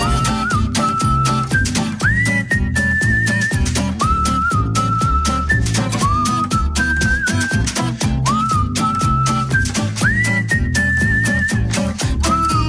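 A whistled tune rises and holds over a full, steady musical backing with driving drums and bass, the melody repeating in short phrases throughout, with no talking.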